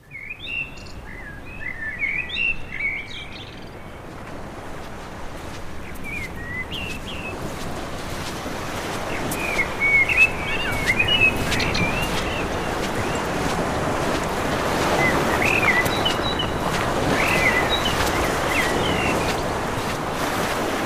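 Gulls call in scattered, high squawks over a steady roar of surf and wind. The cries come thickest at the start, then fade back as the broad wash of waves swells and dominates.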